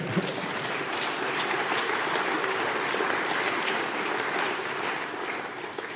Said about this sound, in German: eine Dame klatscht, klatschen Sie ruhig weiter.